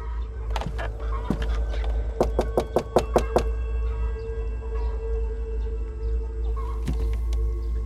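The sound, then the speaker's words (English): Sharp knocks on a wooden house door after 7 a.m.: a couple of raps, then a quick run of about six firm knocks, with a few more later over a low steady background hum. “It was time to go knock on the door.”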